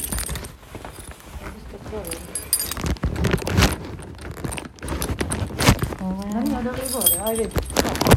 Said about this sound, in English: I'll put those keys in the bag, please. I've got the keys in the bag.